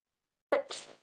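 A single sharp sneeze bursts out, a quick inhaled catch followed by a breathy, hissing release that fades within half a second, with silence on either side.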